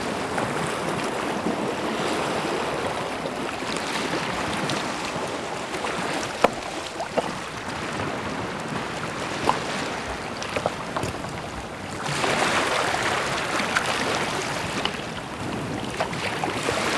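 Waves wash and drag back over a shore of jagged, cut rocks and pebbles, a steady rush of water with scattered clicks and a louder surge toward the end. No voices.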